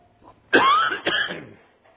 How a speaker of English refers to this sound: Now, you're going to have to excuse me for my cough. I've had this for probably a month. I don't know if it's my medicine I'm taking or whether it's drainage or what it is, but I've been having some problems with that.